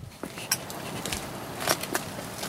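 Three people walk toward a small terraced house, their footsteps landing as scattered, irregular taps against a soft background hush. The steps are fairly quiet, and no one speaks.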